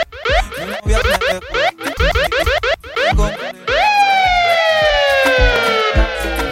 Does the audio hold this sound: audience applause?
no